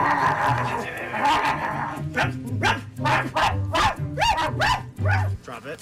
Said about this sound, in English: You'll hear a dog barking, and she's getting reprimanded.